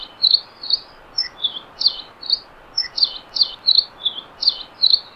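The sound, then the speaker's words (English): A Nihoa finch, an endangered finch of Nihoa Island, sings a lively, canary-like song of rapid, bright chirps and trills, repeating steadily over a faint hiss of background noise, fairly loud with no voices. “If you're lucky enough to ever visit Nihoa Island, you can't miss their lively, canary-like song.”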